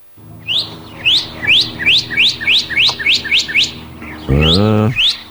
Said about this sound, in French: Il est tout rouge, lui. Le cardinal? Oui, c'est le cardinal.